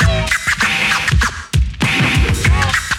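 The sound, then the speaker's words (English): Rapid turntable scratching by a DJ, a record jerked back and forth in quick rhythmic bursts with sharp swooping tones, loud, with a beat underneath and no one talking. “How many? Make the record burn.”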